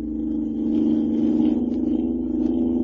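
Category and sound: vehicle, car engine speeding along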